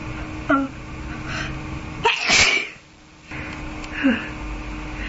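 A person with a cold gives a single loud sneeze midway, preceded by a short sharp inhale and followed by a brief hush, then another quick breathy gasp. No talking.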